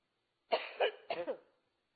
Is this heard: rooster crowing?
no